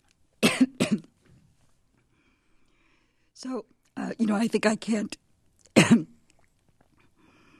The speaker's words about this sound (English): excuse me, I have something in my throat. It's okay. Take a moment and cough it out.